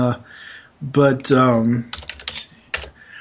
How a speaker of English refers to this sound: Sorry for the typing, folks.